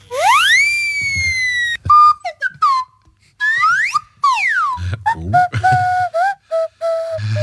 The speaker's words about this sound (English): Thomann has a category on its web shop for effect whistles, and they were generous enough to provide an audio sample for all 83 results